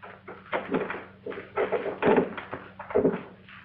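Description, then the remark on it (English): A front-door doorknob turns with a few rattling mechanical clicks and clunks in uneven bursts, fairly quiet and alone with no voices. “The doorknob turns.”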